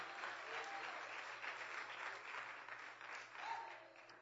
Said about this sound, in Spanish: ¡Aleluya! Dele ese aplauso fuerte al Señor.